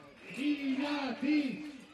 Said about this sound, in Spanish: Con silbatos, con gritos, como estamos escuchando, con cacerolas, el barrio de Chamberí protesta contra el ruido y una normativa anti-COVID que aquí no se está cumpliendo